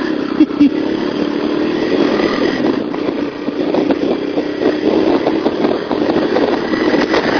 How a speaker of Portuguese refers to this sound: Ai, tava esquecendo, tinha colocado afogador na moto.